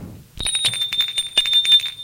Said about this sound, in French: L'on sonne à la porte d'entrée.